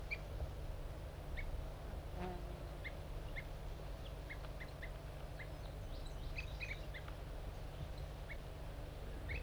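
A wild male bird sings with brief, high chirping notes at irregular intervals, mixed with soft tube calls from two birds labelled 5-3 and 4-3, which were put together and are fighting to lure in wild birds, all fairly faint over a constant low hum. No one speaks.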